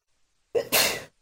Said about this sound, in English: Bless you.